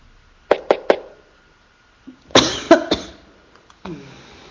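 A loud sneeze bursts out after a few short, sharp explosive sounds, followed by further abrupt breathy blasts, all harsh and noisy with no talking.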